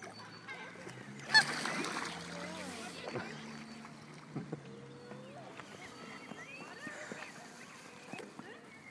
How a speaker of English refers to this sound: They're little geese. Goslings.